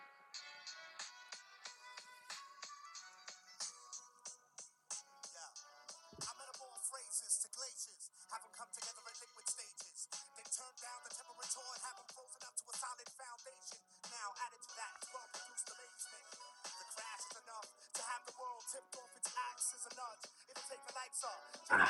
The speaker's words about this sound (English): I'm just opening my phone, hitting shuffle on my favorite album.